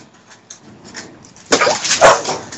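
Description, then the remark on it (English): Dogs squabble over a bone: faint whimpers and yips give way to a sudden loud burst of snarling, barking scuffle over the last second, with no one speaking. “It's a fucking bone, guys. Come on.”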